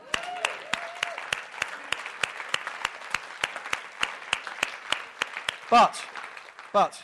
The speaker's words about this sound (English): I think we can clap that.